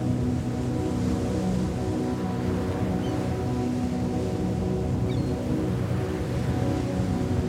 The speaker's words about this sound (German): Fehlenden Überlegungen sind nun verschwunden, eingenommen von pulsierenden Wassermassen irgendwo ganz in unserer Nähe. Kräftige Wellen schmettern gut hörbar gegen harsche Felsen, wenige Meter von uns entfernt.